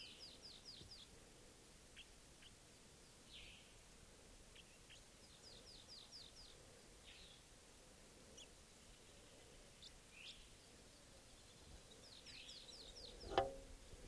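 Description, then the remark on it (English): Quick bursts of high, thin fighting calls from a wild bird by 387, fired in rapid stuttering runs with short gaps between them, faint against a low background hiss. A sharp knock sounds near the end. No one speaks. “Fighting calls there by 387.”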